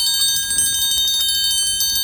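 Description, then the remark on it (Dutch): A triangle rings in a fast, steady tremolo roll while being practised for a parade, its bright metallic shimmer sustained at an even, fairly loud level throughout, with no voices. “Kijk, luister, mijn triangel ook.”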